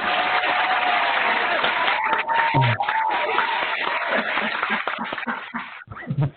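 A crowd claps steadily, a dense wash of applause with scattered cheers and whoops rising over it, loud and sustained for several seconds before thinning out at the end.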